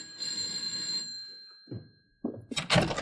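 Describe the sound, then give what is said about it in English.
A doorbell outside a woman's door gives one bright, sustained electric ring lasting about a second and slowly fading. A couple of dull thumps and a rustling clatter follow, like the door being opened. “For at that moment, the ominous finger of fate is about to press the bell outside her door.”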